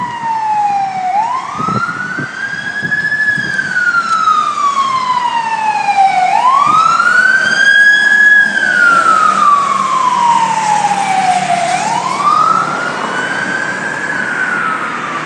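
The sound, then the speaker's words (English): A fire engine siren wails in slow rising and falling sweeps, loud, repeating about three times over steady traffic rumble with no one speaking. “It's my first siren, and that was actually a fire engine.”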